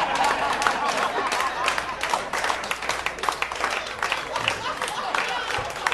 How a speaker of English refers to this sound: So, for the non-South Asians in the audience, who perhaps didn't understand why there was applause, the British built a really extensive railway system throughout India before they left